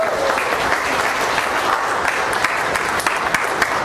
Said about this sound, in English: All right, so let's welcome up with a round of applause.